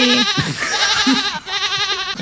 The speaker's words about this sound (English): That was some goats. Yeah. That sounded like goats. I have a family. That sounded goats. Like our goats. That sounded a lot like our goats. Were you tromping around recording our goats?